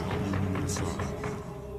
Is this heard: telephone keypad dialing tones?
no